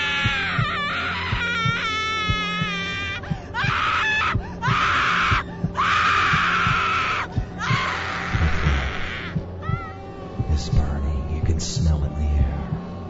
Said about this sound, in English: Her screams of terror still echo inside your head.